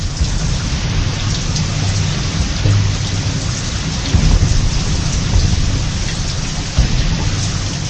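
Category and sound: nature, thunderstorm with heavy rain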